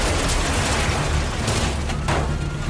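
A yellow roller coaster car slams into a thick steel pillar and the whole train stops abruptly: loud, dense crashing and rumbling fills the whole stretch, with a couple of sharper impact bursts near the end and no voices.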